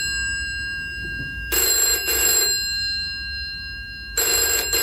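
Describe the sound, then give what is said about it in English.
A telephone bell rings in two quick bursts, then pauses before ringing again, loud, with a faint steady electronic tone underneath and no voices. It is an emergency phone used as a wake-up call. “It's an emergency phone in case I don't wake up for the radio.”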